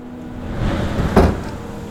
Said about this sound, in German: Horch nur. Ein plötzlicher Windstoß öffnet harsch eines der Fenster und lässt die kühle Luft der Nacht hinein.